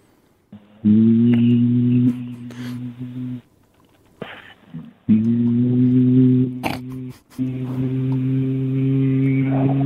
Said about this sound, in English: Okay, give us a hum next to your partner